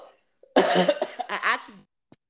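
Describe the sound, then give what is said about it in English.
A loud cough from a single person on air, a harsh rasping burst that breaks into a few rough, throaty hacks lasting about a second before trailing off into quiet. “I shouldn't have coughed on air.”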